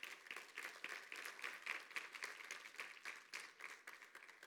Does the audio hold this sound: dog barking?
no